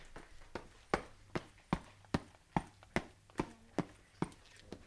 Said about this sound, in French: Redescendons dans l'escalier.